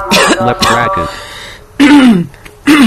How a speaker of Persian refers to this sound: من وسطش یه سرفه میکنم که بخوام اون سرفه رو کات کنیم با هم.